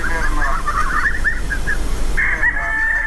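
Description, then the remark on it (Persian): Chickens cluck in a quick run of short, close calls over a steady low background rumble, ending with one longer, drawn-out squawk. No voices are heard. “شاید تخم مرغ هدف اصلی نباشد، اما مرغ ها به حیث حیوانات خانگی نگهداری می شوند، حتی به جای سگ یا پشک هم که باشد.”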